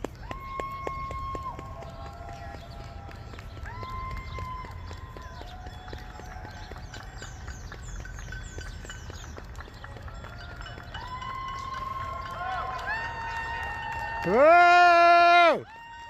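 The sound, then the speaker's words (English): Scattered hand claps patter steadily from a crowd outdoors, mixed with whistles and calling voices, building to a louder burst of cheering and whistling near the end. “People are clapping right here.”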